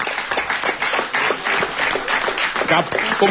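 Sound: applause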